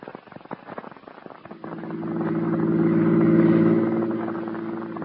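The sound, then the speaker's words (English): A few seconds of clattering and knocking give way to a steady car engine drone that swells louder as it drives, peaks, then eases slightly. No voices. “Get the car out. I'll show you if I'm nuts or not. You do what I say. We're going to drive.”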